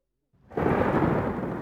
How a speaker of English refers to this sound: Listen, what's that? It's a storm. Can you hear the rain and thunder and see the lightning?